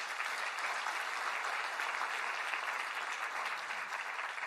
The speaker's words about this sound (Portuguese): Dê uma salva de palmas a Jesus.